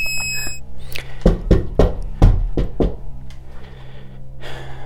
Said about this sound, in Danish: Et lidt tvivlsomt bip fra min boxwiper. Det er det tætteste, jeg kan komme på Madrids skjulte mikrofoner i dag.